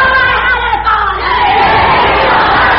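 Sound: crowd chanting political slogans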